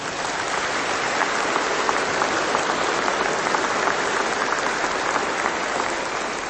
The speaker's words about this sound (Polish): A zatem bardzo serdecznie witamy wszystkich najmłodszych przyjaciół Pana Jezusa i siebie nawzajem, kochani, oklaskami. Przywitajcie.